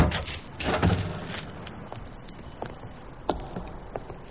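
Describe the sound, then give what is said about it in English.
A heavy church door is pushed open with a brief scraping rumble near the start, followed by scattered knocks and clicking steps with a quiet echo. “That's the door they got out by.”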